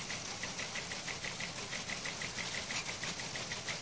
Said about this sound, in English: Would you turn off the goddamn teletype?